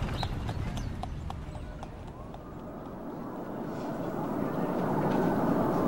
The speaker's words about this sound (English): Then we went for a ride in a horse and carriage.